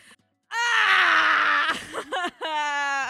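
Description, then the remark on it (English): A person lets out a loud, sustained scream lasting over a second, breaks off briefly with a couple of strained bursts, then screams again at full volume. “I really need to scream. I'm gonna scream.”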